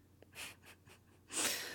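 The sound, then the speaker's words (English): Heavy breathing from a person patting someone down for weapons: a quick series of short, airy breaths, then one long, louder rushing exhale. No talking. “You know, I don't think most of the people who check me for weapons are breathing so heavily.”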